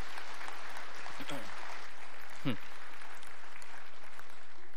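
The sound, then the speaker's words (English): A crowd applauds a woman for sharing and participating. A dense wash of clapping holds at an even level throughout, with a couple of brief voice-like calls rising out of it. “Would you just give her a round of applause for participating in that?”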